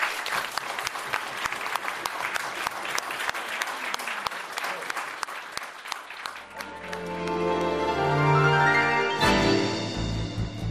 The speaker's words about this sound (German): Applaus.